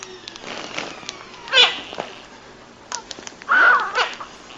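A kitten meows twice inside a vacuum bag as the air is sucked out, a short cry and then a longer, wavering, strained meow, moderately loud against quiet background noise, with no one talking.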